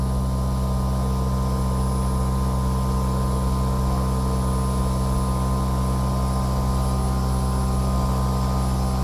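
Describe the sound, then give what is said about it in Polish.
An air conditioner runs steadily in three rooms (bedroom, living room and office), set to its lowest temperature of 18 degrees Celsius: a constant low mechanical hum with a few tonal drones under a soft airy whoosh. The level stays even throughout, with no voices. “No i słyszymy, jak ona sobie teraz działa.”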